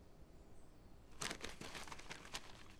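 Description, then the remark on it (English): After a moment of near silence, paper crinkles as a letter bearing the Empress's seal is unfolded, a quick run of crisp, irregular rustles and crackles lasting a second or two. “Another piece of paper.”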